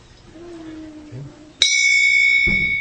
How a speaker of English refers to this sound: So sometimes we take out this drum and a few other instruments, like the kartal. Do we have one in here? This percussion instrument made out of bell metal.